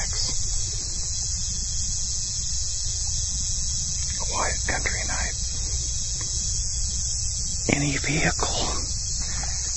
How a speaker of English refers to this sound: So, I am patrolling the grounds with a rifle, listening to the sounds of the night insects. I'm going to crank up the sensitivity so you can get a good listen to the night insect sounds.